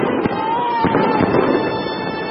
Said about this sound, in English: Back in Beijing, the firecrackers are so loud, we're gonna need subtitles.